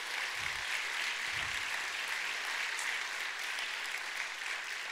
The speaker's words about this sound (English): I'm so glad that we've been able to be blessed by the talents of Valley Christian High School. Can we just give them a huge round of applause for being here?